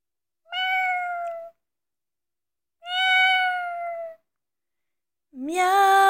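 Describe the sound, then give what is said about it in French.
Three drawn-out cat meows, each about a second long, separated by short pauses; the last rises in pitch and is cut off. Clear, with no talking or other sounds. “Miaou, miaou, mon petit chat, pourquoi es-tu si triste?”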